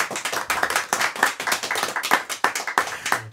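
Applause from a live audience in a radio broadcast studio, a dense, steady patter of many hands clapping for a few seconds, with no voices over it.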